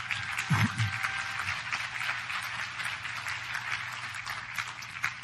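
A room full of people applauds steadily, a dense wash of clapping hands that holds at an even level for several seconds, with a brief low thump near the start.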